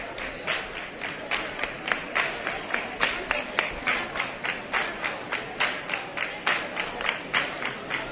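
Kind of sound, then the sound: crowd, crowd clapping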